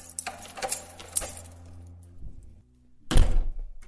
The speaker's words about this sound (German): verlässt seine Wohnung, sperrt zu, geht los.